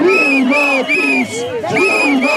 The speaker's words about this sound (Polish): W kampanii wyborczej ani sygnałów świetlnych, ani dźwiękowych nie brakuje. Przeciwnicy Andrzeja Dudy krzyczą...